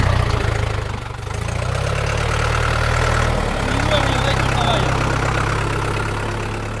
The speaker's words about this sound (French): Attention, le tracteur arrive.